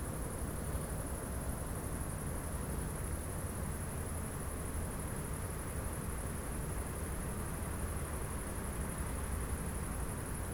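Crickets chirp in a steady, unbroken high-pitched trill above a constant low hiss of background noise, with no voices and no change in level throughout.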